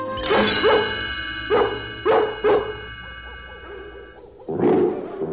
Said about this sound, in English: I'm afraid it's up to us now. will use the twilight bark to alert all the dogs in London and in the villages nearby.